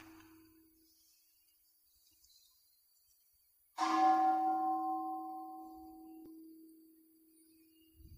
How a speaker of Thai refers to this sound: จิตจะไม่ไหลจิตจะไม่ฟุ้งซ่านนะจิตจะได้สมาธิขึ้นมาฟังเสียงระฆัง